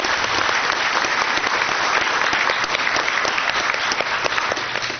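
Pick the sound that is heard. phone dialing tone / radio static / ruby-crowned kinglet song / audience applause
audience applause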